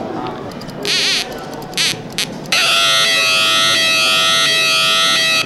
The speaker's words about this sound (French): Et du coup, c'est des alarmes fictives ou elles existent vraiment dans des lieux publics? Non, elles n'existent pas dans des lieux publics. Par contre, elles sont faites par des élèves qui ont entre 10-12 ans comme premier montage.